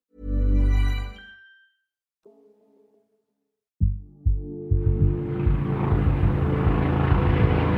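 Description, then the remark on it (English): After a brief low tone and a pause, helicopter rotor noise swells in overhead, a loud, steady rhythmic chopping over a broad engine roar that holds to the end; helicopters at dawn over Jacarezinho, a favela in Rio de Janeiro, during an operation against drug traffickers. “At dawn on May 6th, residents of Jacarezinho, a favela in Rio de Janeiro, awoke to the sound of helicopters and gunfire.”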